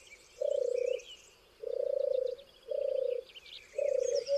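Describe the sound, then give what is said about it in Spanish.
A European turtle dove's soft, purring coo repeats four times in a steady rhythm, each note a low rolling trill, with faint higher birdsong twittering in the background. “Arrulla la tórtola, turtur.”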